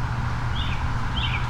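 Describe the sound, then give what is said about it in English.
Two brief, faint bird chirps sound about half a second apart over a steady low outdoor rumble beside a dirt path, with no one speaking. “We got birds chirping and blurping.”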